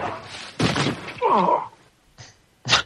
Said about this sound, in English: Where did this gunshot come from? It's a trivia question.